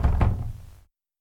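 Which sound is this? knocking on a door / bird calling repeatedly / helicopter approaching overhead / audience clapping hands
knocking on a door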